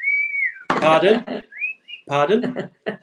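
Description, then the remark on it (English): A person whistles a thin, high-pitched tone imitating a grandmother's hearing aid feedback, a steady whine followed by brief rising whistles, interleaved with bursts of energetic speech. “Just your hearing aids gone, Nana. It's just whistling at a fucking really high pitch.”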